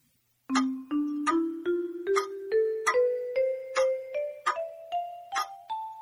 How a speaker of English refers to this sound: The clock struck six.